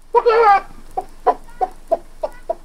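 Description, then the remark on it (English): Someone imitates a chicken: a loud drawn-out squawk, then six short, evenly spaced clucks in a steady rhythm, clear with nothing else around. “The dumb stableman role was the robber with a fox-like grin's father, who had an excellent chicken imitation, because it turned out that he was the one laying the golden egg.”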